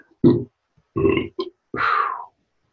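A series of loud belches, three short gurgling bursts followed by a longer, drawn-out burp, with brief pauses between them and no talking.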